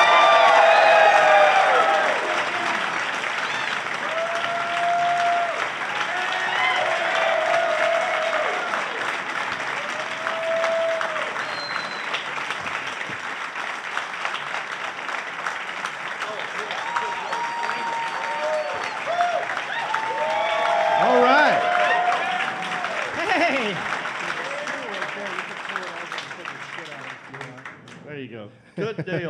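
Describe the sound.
An audience at the Queen City Comedy Festival in Charlotte claps loudly and steadily for about half a minute as the panel comedians are introduced, with scattered cheers, whoops and shouted voices rising over the dense applause before it thins out at the very end.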